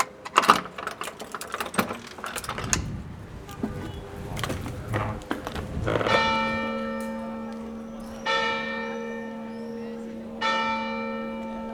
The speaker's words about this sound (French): Il court à l'église, au clocher, saisit la corde de la seule cloche pour que les paysans des fermes éparpillées au loin se réveillent.